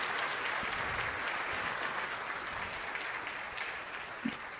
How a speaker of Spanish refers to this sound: Yo he estado escuchando todas sus dos charlas, démosle a ellos otro aplauso, porque tenerlos aquí es una verdadera oportunidad.